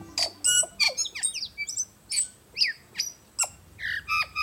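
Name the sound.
tui calling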